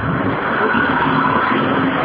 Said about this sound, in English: So, being on Morningside Road now, you can hear there is traffic, buses, etc.